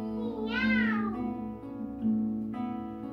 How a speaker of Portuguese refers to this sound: Cada gato faz miau, miau fininho, miau grosso. Cada gato faz miau, miau rouco, miau forte.